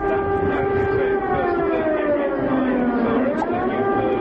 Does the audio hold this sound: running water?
no